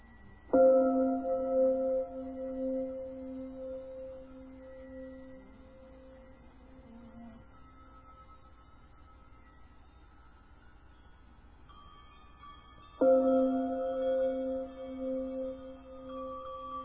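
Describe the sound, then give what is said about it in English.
Two meditation bells ring out, about twelve seconds apart, each struck once and leaving a rich, humming tone that slowly fades. No voices are heard. “It allows the bells to be the bells, to come and go, grow louder and quieter.”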